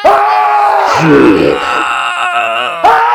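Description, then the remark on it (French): Several people being attacked scream and moan in overlapping, drawn-out wails, loud and anguished, with a chaotic crowd-like quality and no clear words. “Puis là, on peut entendre, ça crie là-bas, ça en train de se faire massacrer.”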